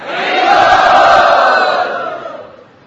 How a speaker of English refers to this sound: If you like this schedule, loudly chant Hari Bol.